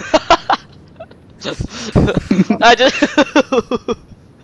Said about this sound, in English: I just needed to let that burp come out.